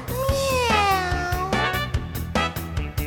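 A single long, wavering meow from Cookie the cat, a character in a children's chant song, rises and bends over an upbeat backing track with a steady thumping beat, the meow sitting clearly on top of the music.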